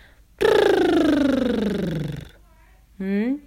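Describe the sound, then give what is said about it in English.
A buzzing lip trill, done as a vocal exercise, carries a voiced tone that glides steadily downward for about two seconds, then a short second trill rises quickly in pitch. “For those who can't do that sound, we're going to roll our lips.”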